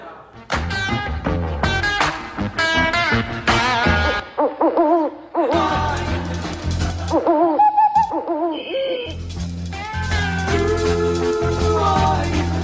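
Hooting owl-like calls, loud and close, repeated in a rhythmic, song-like pattern over a dense musical backing. The hoots sound as if voices are imitating owls rather than real birds.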